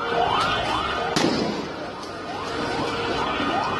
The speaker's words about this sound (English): and they were met with gunfire. At least 17 people were killed